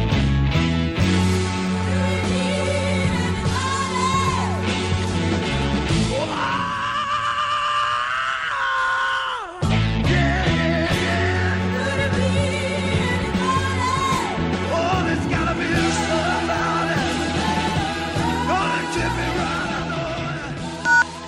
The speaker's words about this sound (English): I mean, he probably has the rock and roll's greatest scream throughout that song. Nobody has ever got that scream that just chills you to the bone.